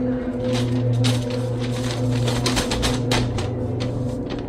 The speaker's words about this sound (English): Then, I heard a crushing sound of a paper bag.